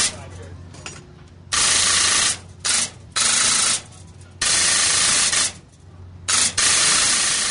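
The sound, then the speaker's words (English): At a state fair midway's machine gun shootout game, inspectors fire air guns that shoot 100 shots at paper targets 5 feet away. Rapid shots come in long, hissing bursts that blur into a steady spray of noise, broken by short pauses. Five or six loud bursts of varying length. “It's an air gun that fires 100 shots for a mere $3.”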